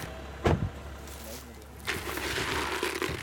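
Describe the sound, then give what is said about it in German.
A sharp click like a car door unlatching over a low idling engine hum, then a stretch of rustling, shuffling movement as a hunting companion climbs out of a second car near a wild boar baiting site. “Aus dem zweiten Auto steigt Jagdfreund Moritz Nickel aus.”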